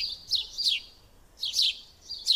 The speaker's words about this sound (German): Ja, logisch. Ist doch der Spatz. Klar, der Spatz, wenn jemand fragt. Klar, so klingt der Spatz.